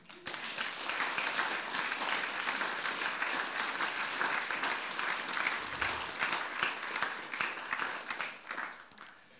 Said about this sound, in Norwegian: Vi Hamar Frikirke etter 125 år. Skal vi gi oss selv en applaus?